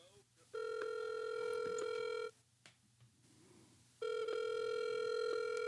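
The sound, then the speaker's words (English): A phone line ringing on an outgoing call to the Lego store in West Farms Mall: two long, steady, buzzy ringback tones separated by a pause of about two seconds, with faint background noise between the rings. “I am calling the Lego Storm in West Farms Mall.”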